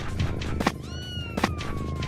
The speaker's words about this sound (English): Oh, yeah, this kitten is so... There's too many kittens.